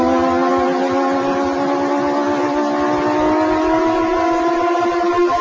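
A racing video game's engine sound from the Atari ST version: a loud, steady electronic drone with layered harmonic tones that drift slightly in pitch, running continuously with no voices.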